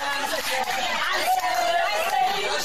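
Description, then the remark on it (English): Restaurant diners out for their Sunday dinner cheering in congratulation, a dense, continuous roar of many overlapping voices, loud, with excited shouts rising out of the crowd noise for the whole stretch. “So who are all these people cheering? People who are out for their Sunday dinner.”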